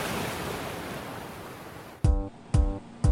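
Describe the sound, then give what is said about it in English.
A steady, broad wash of ocean surf breaking on a shore rushes for about two seconds, then gives way to three evenly spaced, booming low thuds with ringing tones. “Enjoy the waves and have a great week.”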